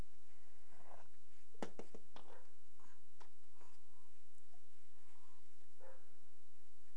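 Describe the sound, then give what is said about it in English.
A dog named Dakota barks outside, a few scattered sharp, muffled barks over a steady low background hum with no one talking. “What is Dakota barking at outside?”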